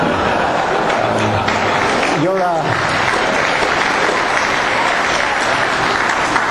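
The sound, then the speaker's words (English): A large audience applauds loudly and steadily for several seconds, a dense wash of clapping with a brief cheer or whoop rising out of it near the middle. “You're an appropriately rambunctious crowd. You're seething with subterranean enthusiasms.”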